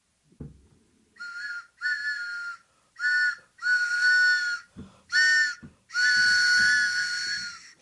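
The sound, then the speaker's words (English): A train whistle sound effect, the WBAI radio 'pitching train' for its fund drive, sounds in a series of blasts, short at first and then longer, ending in a sustained wail with a steady mid-high pitch and a breathy, steamy tone, preceded by a faint thump. “Oh, it's the pitching train.”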